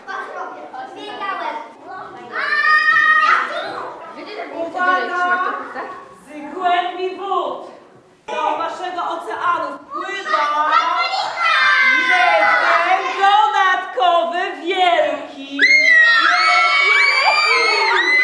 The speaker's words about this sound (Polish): Tak cały czas. Mnóstwo pisków i wciąganych nieszczęśników schwytanych przez rekina, interwencje ratowników, no i co tu dużo mówić, cały ocean radości.